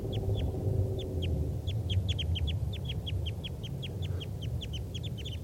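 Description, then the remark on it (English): Three wild type 2 crossbills, one a red male, calling in trees near a net: a steady stream of short, sharp, high-pitched chip notes overlapping irregularly over a constant low rumble of background noise. “There's two wild type 2 crossbills here in the trees near the net. This is them calling. Actually, there are 3 birds.”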